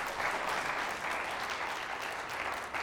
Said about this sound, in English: Let's give the Lord a good clap offering here this morning.